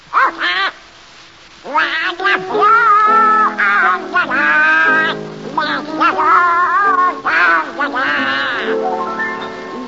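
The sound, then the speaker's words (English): A raspy, duck-like quacking voice sings a warbling, wavering melody for several seconds, loud, in a long unbroken run after a brief opening burst. A human voice imitates the duck. “Donald Duck, you've denied being the worst singer in the annals of radio. All right, prove it. Sing.”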